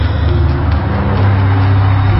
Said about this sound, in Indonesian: Di depan, kami melihat sebuah truk kontainer berada di jalur kiri. Dan sebuah bis berada di jalur kanan. Mobil Kijang menyalip di antara truk dan bis itu.